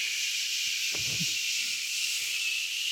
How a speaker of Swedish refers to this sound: Sömmaskin är sömmaskinen är en liten maskin som låter som en hårtork. Som står på golvet bara och låter hela natten. Det är sån här white noise-ljud.